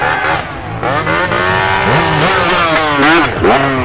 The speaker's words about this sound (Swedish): Det gick ju fint där med KTM:en genom myran. Han körde lugnt och fint.